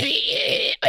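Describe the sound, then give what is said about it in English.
A voice imitates the metallic screeching noise heard on Fred Valentich's aircraft radio recording near Melbourne, a harsh, strained, high, grating sustained tone held for most of a second, breaking off briefly before starting again. “It's a metallic screeching is how it's described.”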